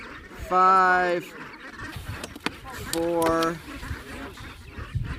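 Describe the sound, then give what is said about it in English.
Two loud, nasal honks from brant geese ring out, the first longer and the second shorter, over a busy background of rustling and faint voices, as a team bands and measures the geese. “On this day alone, the team banded and measured 1,500 brants.”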